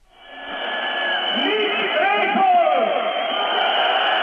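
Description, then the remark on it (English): A crowd of tens of thousands cheering at an opposition protest in Belgrade as a speaker leans from a fourth-story window at opposition headquarters and reels off names; a dense, sustained roar of many voices that swells over the first second and stays loud and steady, with shouts rising and falling within it. “A crowd of tens of thousands cheer as a speaker, leaning from a fourth-story window at opposition headquarters, reels off names they've never heard before.”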